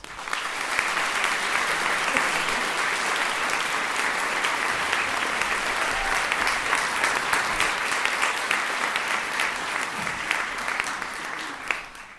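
An audience applauds steadily for about twelve seconds as a performer is welcomed to the stage at a show, a dense, sustained wash of clapping at even loudness with no voices over it, tapering only slightly at the end.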